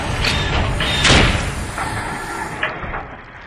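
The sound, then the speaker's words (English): A heavy, booming slam lands with a crushing impact as two giant slugs rear up and slam themselves down, crushing a robot. Smaller thuds come before and after, over a dense rumbling background with no voices. “two of the slugs coordinated their efforts and reared up, slamming themselves down and crushing the last remaining Cyberman.”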